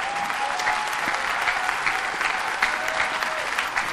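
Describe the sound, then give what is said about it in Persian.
Steady, dense applause from an audience, many hands clapping at once in a continuous bright patter that stays loud and even throughout, with no voices standing out. “بعد بیا بالا تشویقش کن، بیا بالا.”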